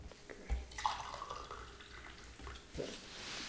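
Lemon verbena tea trickles and splashes into a cup, a short steady pour with a few drips and clinks, fairly quiet, with no voices.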